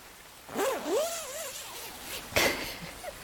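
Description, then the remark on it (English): A sleeping bag zipper is drawn closed: a drawn-out, rising rasp lasting about a second, a brief pause, then a quick final tug. Moderately quiet, with no talking. “Now zip us back up.”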